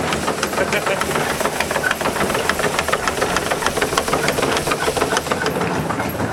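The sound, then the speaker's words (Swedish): A large fan blows air in a steady, loud rush, with a fast rhythmic mechanical chatter running through it, continuous for the whole stretch. “Det fläktar bra i där i andra änden. Ja, fläkten är ganska stor så ja.”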